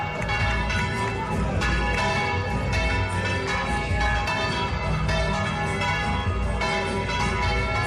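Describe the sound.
Church bells peal loudly and continuously, overlapping strikes ringing in a dense, steady clamor, as a Virgin image in a gold-embroidered mantle sets out to preside over a Sunday romería celebration, with a faint murmur of voices and crowd noise beneath.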